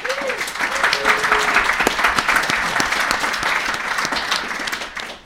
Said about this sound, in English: Sorry about that, but huge, huge thanks to everyone. Let's give some applause.